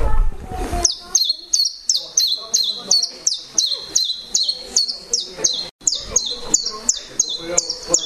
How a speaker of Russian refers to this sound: Пеночка Теньковка. Теньковка она называется так, потому что у нее, да, песенка тень-тень-тень-тень. Давайте включим и послушаем.